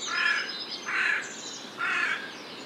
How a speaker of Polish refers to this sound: Z głosem wrony jest gorzej, bo podobny jest do gawroniego, ale ma w sobie więcej litery R.